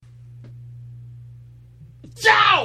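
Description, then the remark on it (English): One sudden, forceful sneeze, made with the head turned away, bursts out after a stretch of low, steady hum, a harsh hissing blast trailing into a strained, falling vocal cry. “That was a sneeze with me turning my head away so I wouldn't blow your eardrums out.”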